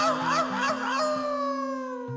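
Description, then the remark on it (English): A voice in a song imitates a coyote howling at the moon, a wavering, rising-and-falling wail that settles into a long, steady held note, clear over a low sustained tone. “one little coyote was howling at the moon.”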